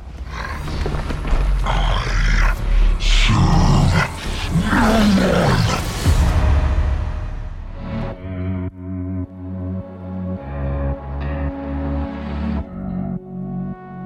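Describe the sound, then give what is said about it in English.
A deep, loud growl for the monster character Idol, made by morphing a voice recording with a dog's growls and a couple of other sounds; it rumbles and snarls for several seconds, then gives way to pulsing, tonal musical sounds with no speech. “I would take that recording and morph it with my dog's growls and a couple of other things to give it a lot more body, a lot more presence, and this is what it sounds like.”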